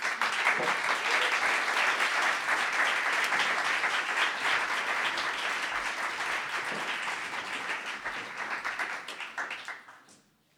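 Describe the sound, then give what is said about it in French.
Sustained applause from a large crowd welcoming the speakers, a dense wash of many hands clapping at steady volume for about ten seconds before tapering off and fading out near the end. “Et puis, je crois qu'on peut les accueillir sous un tonnerre d'applaudissements.”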